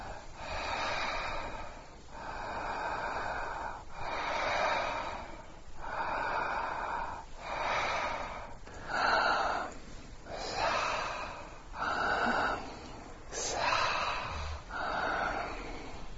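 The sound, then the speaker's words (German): Slow, deliberate breaths in and out, about eight airy cycles in a steady rhythm with short pauses between them, no talking. “Könnt ihr es hören? Hamsa, Hamsa, Hamsa. Das ist Krishna, die Überseele, die sogar unsere Atemzüge”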